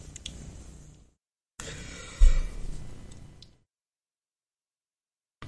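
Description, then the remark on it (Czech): A tired man yawns, breathy and drawn out over a couple of seconds, starting with a short intake of air, pausing briefly, then a longer, louder exhale that fades into silence. “Takže takhle se to má, zívám tady, opravdu zprávy už nedám.”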